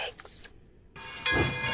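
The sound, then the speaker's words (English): A short train sound effect in a radio station jingle for Funky Essex 103.7 FM: a quick whistle-like squeal, a brief pause, then a loud hissing rush with steady ringing tones, no voices. “All aboard! The next train up platform one is the Funky Express.”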